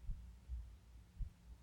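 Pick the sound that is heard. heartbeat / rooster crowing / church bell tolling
heartbeat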